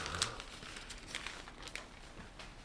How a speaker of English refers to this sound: This is the only local news show on the radio where you can hear the pages turning on the air. Did you know that? That's true.